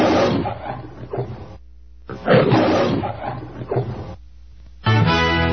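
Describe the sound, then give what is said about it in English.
A lion roars twice in close succession, each roar loud, rough and drawn out with a short pause between, followed by a bright sustained tone at the very end, as the station identification of The Lion, KHNC 1360 AM, Johnstown, Denver. “This is The Lion, KHNC 1360 AM, Johnstown, Denver.”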